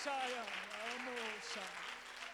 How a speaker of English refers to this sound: Come on, if you look forward to that day, I wonder if you can just clap your hands and just give God just a little bit of praise right there.